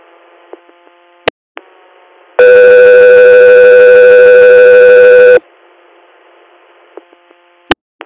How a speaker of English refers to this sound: Guthrie, or stand by for Tones.